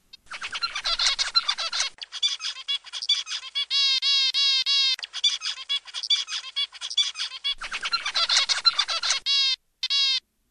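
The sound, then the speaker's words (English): A zebra finch sings a rapid, repeating song of buzzy, nasal notes and bright harmonic stacks, looping through the same phrase several times with brief pauses, loud and clear with no talking. “Just to give you an idea of what it sounds like, we have a recording of the zebra finch.”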